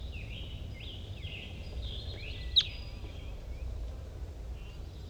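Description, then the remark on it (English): A wild crossbill calls from off in the distance on a hill: a series of faint, high, slurred chirps over a steady low rumble, with one brief sharp click midway. “There's another wild crossbill coming around.”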